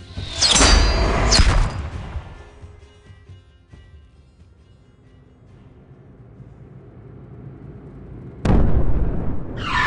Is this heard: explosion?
yes